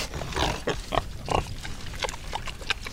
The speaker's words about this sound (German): Die kleinen Schweinchen kampeln sich wie junge Hunde, während ihre Mütter im Boden rüffeln.